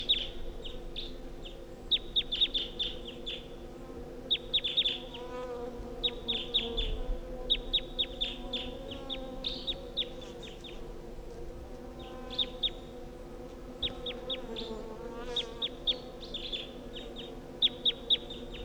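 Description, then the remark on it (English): A wild bird calls from the top of a tall pine tree at 10:13 a.m., repeating quick bursts of sharp, high chirps and pausing between clusters, over a steady low humming drone that runs throughout. No one speaks. “That's it calling from the top of the tall pine.”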